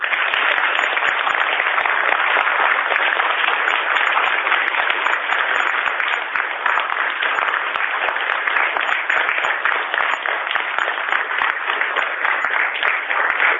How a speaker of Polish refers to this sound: Myślę, że w tym momencie gorącymi oklaskami pozdrówmy wszystkich słuchaczy Radia Maryja.